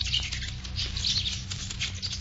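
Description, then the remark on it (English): Rapid, high-pitched chattering and squeaking, like a troop of monkeys, made by people mimicking the animals while hiding at night in a thicket near a campsite on the Zamboanga Peninsula, Mindanao. It carries on continuously at a steady level over a low background hum, with no speech. “Do you hear those monkeys chattering their heads off in the dark night? Well, they're not monkeys at all.”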